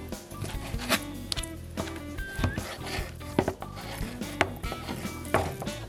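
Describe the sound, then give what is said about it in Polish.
A knife dices raw chicken into cubes on a cutting board for a pancake filling, a run of quick, uneven chops and scrapes that keeps going steadily without any talking. “Na początku kroimy kurczaka w kostkę.”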